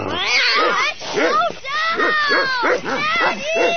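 A chained Great Dane named Bullet barks and whimpers in a rapid series of loud, pitched, rising-and-falling yelps and whines that repeat almost without pause for several seconds.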